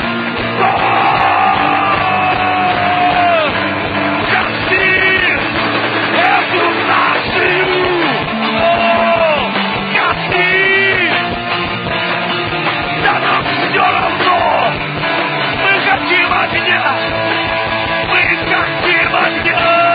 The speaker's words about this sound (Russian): кричит!